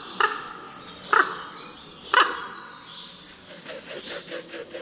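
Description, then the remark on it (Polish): An alarmed raven gives three short, harsh croaks spaced about a second apart, then a quicker run of softer, gurgling notes, heard clearly outdoors with no one speaking. “Kraknięcia zaniepokojonego ptaka są krótsze i lekko bulgoczące.”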